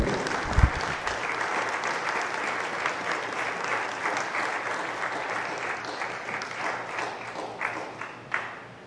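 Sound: audience applauding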